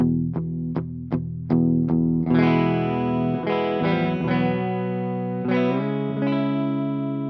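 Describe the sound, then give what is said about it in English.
A Breedlove acoustic guitar, drenched in reverb and delay, opens with a few evenly spaced muted plucks, then rings out into lush, sustained chords. It sounds fairly loud, with no voices. “This is a Breedlove.”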